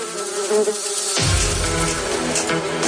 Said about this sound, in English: And this way I'll give you some extra time while we're listening to the jingle and everything if you'd like to participate in our Say What soundbite.